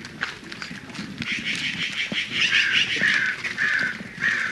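crow cawing

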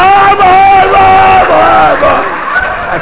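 audience shouting loudly

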